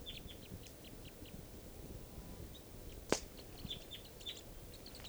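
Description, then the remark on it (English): Birds chittering as they come down from low deciduous trees around a camp: a scattered run of short, high-pitched chirps, fairly soft, over a steady low rumble of background noise, broken once by a single sharp click. “And they're coming down, chittering.”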